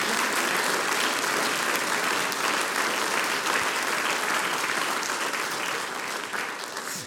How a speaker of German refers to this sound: Heute in zwei Besetzungen …. Und das ist ganz was Besonderes, dass die jungen Leute Zither spielen. Und ich denke, das hat sie einen besonderen Applaus verdient.